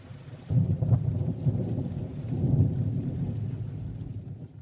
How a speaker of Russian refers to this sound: Однажды на улице начался сильный дождь.